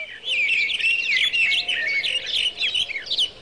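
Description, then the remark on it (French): Several birds sing at once in the countryside during a walk, a busy, continuous chorus of bright chirps and warbling trills, steady throughout, with a faint low rumble of open outdoor air beneath. “Je me promène dans la campagne. Les oiseaux chantent.”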